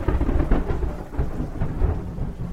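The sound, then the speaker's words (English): Deep, rolling thunder rumbles continuously through a thunderstorm in Memphis on the evening of April 3rd, with a steady hiss of rain beneath it. The low booms swell and ease in waves, loud, with no voices. “As thunderstorms rage outside, Martin Luther King speaks on behalf of the sanitation workers to several thousand followers in downtown Memphis.”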